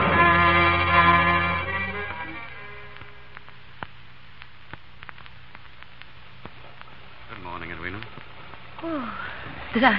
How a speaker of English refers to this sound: How's the weather this fine morning? Raining.